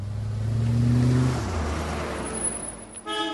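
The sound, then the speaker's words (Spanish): The engine of a fashionable car revs loudly, its pitch climbing and then dropping as a father drives in and settles the car, with a brief tonal beep at the very end. “Las pocas veces que viene a verlos lo hace en un carro de moda.”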